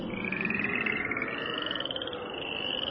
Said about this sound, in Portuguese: Aí Arão estendeu a mão sobre as águas do Egito, e as rãs saíram das águas e cobriram todo o país.